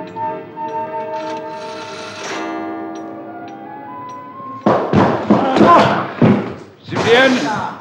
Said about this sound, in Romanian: Cine sunteți? Cum îndrăzniți să-mi spargeți ușa?